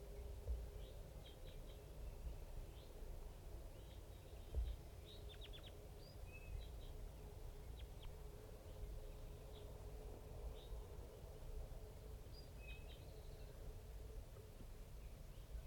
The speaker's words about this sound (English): It's 7:30 a.m. and it's real foggy up on the hilltop here. And 5-3 is calling. There's about 5 crossbills and a little flock of big guys just around here somewhere.